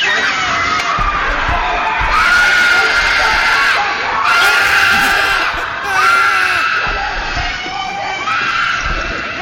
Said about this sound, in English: Listen to this little girl scream. She has the best scream.